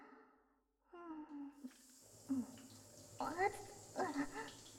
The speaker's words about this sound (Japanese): それじゃあ、お背中お流しします、お兄さん。シャワー出しますね。